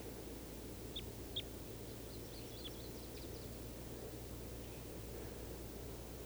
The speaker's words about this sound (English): There are at least three birds in the trees. 391, another male and a female. And I think this is the female at the top of the tree that's calling.